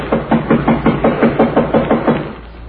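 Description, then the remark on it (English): A steady run of about a dozen firm knocks on a door, evenly spaced and fairly loud, with a dull, low thud to each rap before the knocking stops. “Knock again, will you”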